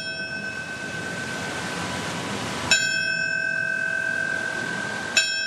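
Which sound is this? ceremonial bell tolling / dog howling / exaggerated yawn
ceremonial bell tolling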